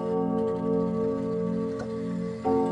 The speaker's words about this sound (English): Bob Setnick's antique clocks have been keeping time on historic Sutter Street for 30 years